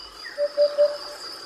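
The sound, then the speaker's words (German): A hoopoe (Upupa) gives its courtship call: three soft, hollow, low "hoop" notes in quick, even succession, heard over a steady high insect buzz in the background. “Das ist der Balzruf dieses Vogels.”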